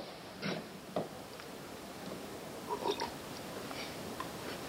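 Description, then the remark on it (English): Quiet sipping and slurping of water, a few short wet gulps spread across several seconds, separated by soft background noise, with no talking, as a speaker arguing a case in court takes a sip of water. “May I permissibly take a sip of water?”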